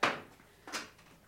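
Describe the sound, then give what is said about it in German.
Window shutters are pulled shut, making two sharp wooden knocks a moment apart, the first louder and followed by a brief rattle, with no voices. “Ich schließe die Läden.”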